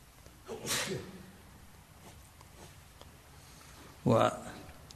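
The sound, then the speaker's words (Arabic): A single sharp, loud sneeze bursts out near the end, following a softer breathy burst earlier, with quiet in between. “رحمك الله”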